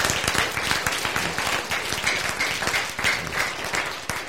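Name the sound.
audience applause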